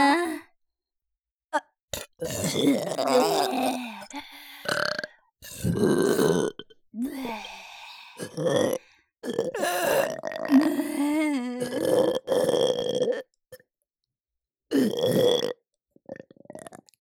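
Two people let out a series of long, loud, gurgling burps, one after another with short pauses between, with no talking.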